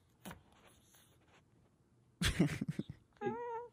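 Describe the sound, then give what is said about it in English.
Scuffle of flapping and thumping, then a harsh, wavering squawk from an agitated female bird lunging to attack a person; a sharp knock sounds briefly at the start, with no talking. “This bird tries to attack me every chance she gets”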